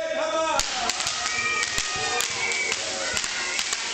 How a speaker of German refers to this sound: Jedes Mal, wenn in der Geschichte der Name Haman auftaucht, übertönen die Juden in der Synagoge den Namen mit Klatschen, mit Buhrufen und eben mit der Ratsche.